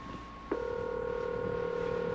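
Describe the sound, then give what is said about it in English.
A faint, steady ringback tone on a phone line, an outgoing call from WQAM radio to a number in Fort Lauderdale, begins about half a second in and holds without a break, heard alone over a low line hiss. “We have kind of a faint ring.”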